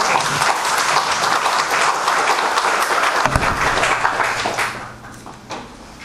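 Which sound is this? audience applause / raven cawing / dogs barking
audience applause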